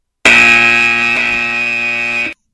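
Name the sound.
buzzer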